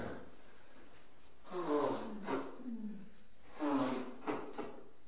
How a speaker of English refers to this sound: Somebody have a tissue? Can somebody grab me a tissue, please? I hate to blow my nose on camera, but the sniffling is probably worse. So pardon me for a second.